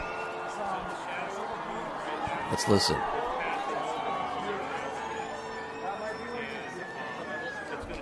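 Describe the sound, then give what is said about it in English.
A large crowd of about 50,000 people at the Indianapolis 500 cheers and shouts as a solar eclipse reaches totality, a dense, steady roar of mingled voices, swelling briefly louder partway through. One voice speaks a few words over it. “The crowd is going wild.”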